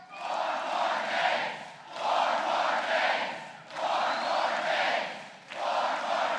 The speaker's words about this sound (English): They spontaneously burst into a cheer of four more days as Romney took the stage.